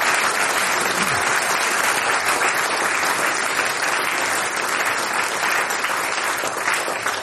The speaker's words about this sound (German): Ein Applaus für die Veranstalter da herum in Falkenstein.